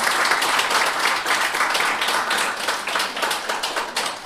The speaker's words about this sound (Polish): Wyróżniamy także wydawców, także oklaski należą się wydawnictwu.